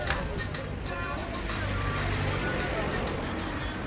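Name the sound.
inside a moving bus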